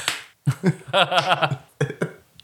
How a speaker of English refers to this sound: that sound of them like hitting each other is just really disturbing. It's probably like the most accurate hitting sound at the Super Nintendo game because it does sound like someone like took raw chicken out of the fridge and just slapped it.